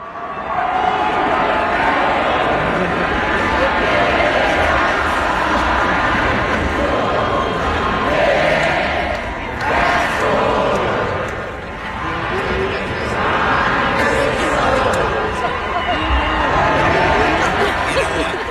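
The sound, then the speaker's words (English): A huge concert crowd of about 20,000 people sings along together, a loud, continuous wash of many blended voices, with scattered cheers and shouts rising now and then for about eighteen seconds. “Well, you just kind of lead everyone in a sing-along,”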